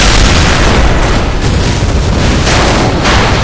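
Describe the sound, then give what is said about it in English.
A loud explosion blows apart the door to the Mindbreaking chamber, a dense, roaring wall of noise with deep rumbling and crackling debris that stays steady and powerful for the whole few seconds, with no voices. “From his vantage point, Rock saw the door to the Mindbreaking chamber blow apart, and a squad of heavily armed men rush into the room.”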